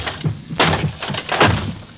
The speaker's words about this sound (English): Smashing that chair won't help, sir. It will. It will, I tell you.